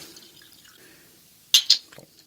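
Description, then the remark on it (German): Wine trickles softly into a glass in a studio, then two sharp, bright splashes stand out, followed by a few faint drips as the pour ends. No one speaks. “Schenk doch nochmal nach.”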